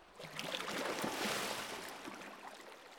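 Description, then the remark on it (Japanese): Hot water pours and splashes steadily over someone's back for a few seconds, a full rushing wash that swells and then gradually tapers off, with no voices. “それでは、お湯、かけますね。”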